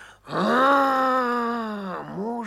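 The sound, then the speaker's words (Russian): A human voice imitates a bear's roar: one long, loud, rising-then-sustained growling bellow lasting about two seconds, followed by a short second rumble at the end. “Медведь съел, да как заревет.”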